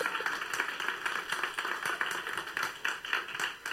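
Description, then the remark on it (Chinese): A crowd applauds steadily, many hands clapping at once in a dense, continuous patter for several seconds without any talking; an audience listening to a preacher claps. “他们反应跟我们现在一样的拍手，好像套照，好像是旁边有人在切换开关或是变魔术一样，要有光就有光”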